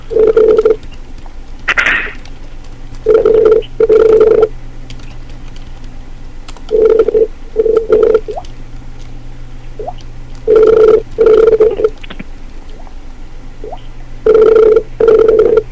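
A phone ringback tone sounds in repeated double pulses, brr-brr then a pause, cycling about every four seconds over a faint steady hum, with a few soft clicks in between.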